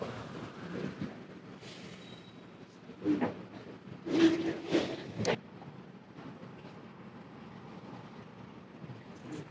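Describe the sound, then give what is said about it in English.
A freight train with four lead engines, lead engine 4146, rumbles steadily as it heads out of Rose Yard in Altoona, with a low continuous drone and a few louder clanking bursts in the middle as cars roll past. “We already got our first moving train.”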